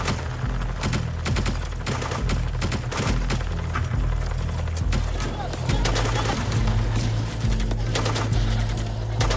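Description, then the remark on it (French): Bursts of rapid machine-gun fire crackle almost nonstop, sharp loud cracks overlapping in ragged volleys over a steady low rumble. “Ça mitraille vraiment autour de vous.”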